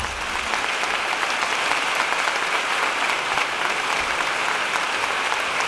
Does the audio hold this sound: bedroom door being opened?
no